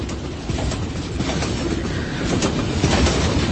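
Steady rumble of a train in motion, wheels clacking over rail joints in a continuous rattling rhythm, with a broad, dense roar and no voices.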